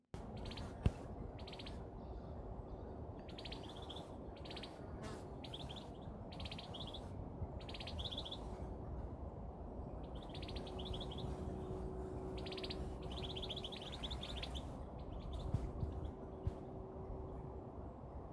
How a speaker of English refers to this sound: Now we'll listen to the vineyards at Burn Cottage. Here, you can hear two birds talking to each other.